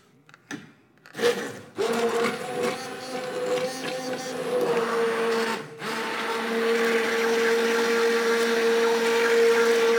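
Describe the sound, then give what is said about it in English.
An immersion blender whirs steadily and loudly, puréeing soup in a pan after a few clunks at the start, with a brief dip midway before the motor drones on. “But where the immersion blender just goes in there, it just goes right into the pan.”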